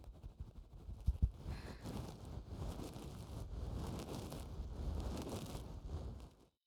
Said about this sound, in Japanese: はーい、あったかいタオルが触りますよ。こうやって蒸しタオルでお拭きすると血行が良くなって、とっても気持ちいいんですよ。